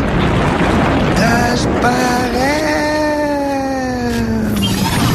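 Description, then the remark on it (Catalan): A loud, continuous roar of a high-pressure injection rocket engine igniting for liftoff fills the whole stretch, with a droning whine that swells up and then slowly sinks in pitch over a thick, rushing rumble. “Iniciem protocol d'acció de motor d'injecció per altes pressions.”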